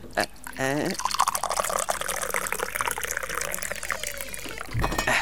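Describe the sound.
Tea pours steadily into a glass, a continuous bright splashing trickle lasting several seconds, with a brief voice at the start and a soft clink near the end.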